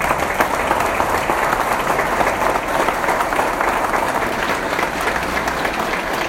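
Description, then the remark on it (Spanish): Steady audience applause for Javier Obando at a tribute event in his honour fills the whole stretch, a dense, even patter of many hands clapping at once, loud and sustained without any voices on top. “Un aplauso para Javier Obando.”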